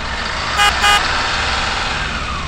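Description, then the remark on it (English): A bus engine rumbles steadily while two short, bright horn toots sound in quick succession near the start, then the motor drones on alone. “It is driving a bus.”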